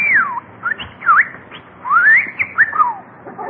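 A talking bird named Bertie whistles a run of bright, sliding notes that swoop up and down in quick phrases with brief pauses between them. No one speaks.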